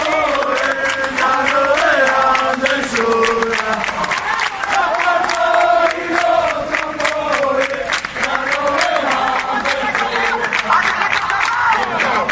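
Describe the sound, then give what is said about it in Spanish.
A large crowd of Biris Norte football fans chants in unison in the evening around the Ramón Sánchez Pizjuán stadium, at a tribute placing a plaque at gate 24 for Biri Biri, a loud, melodic sung refrain rising and falling, driven by steady rhythmic claps or drum beats throughout the twelve seconds. “Además se escucharon cánticos como el siguiente.”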